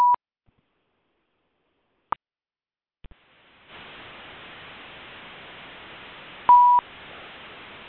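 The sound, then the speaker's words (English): Short electronic keypad beeps from a phone being unmuted on a conference line for a class, a few clicks, then a steady hiss of an open line comes in, with another brief tone sounding over the static near the end. “I'm going to unmute the phone.”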